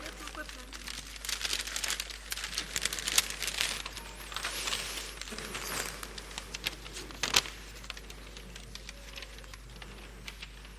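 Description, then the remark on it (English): A large sheet of paper being crinkled and handled, with a steady stream of irregular crackling rustles and a few sharper crunches along the way. “She has Maltesers. And a big piece of paper.”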